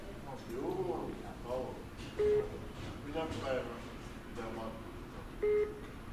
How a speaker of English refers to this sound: And as soon as you pressed the elevator button, the beeping increased in frequency, like it got excited that somebody else was doing something. I'd like you to press the button of this elevator here. Let's see if this beeping increases.